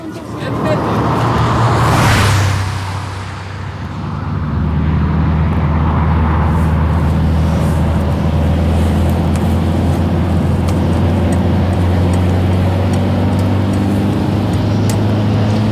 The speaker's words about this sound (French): Camion, hein.